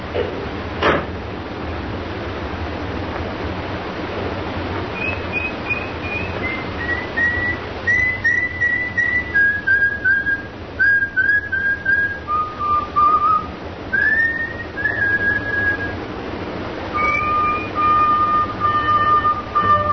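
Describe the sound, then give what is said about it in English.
A person whistles a slow, stepping tune of sustained clear notes over a low background hum, starting after a brief knock and continuing to the end with no talking. “And when you get into the street safely, don't forget to whistle.”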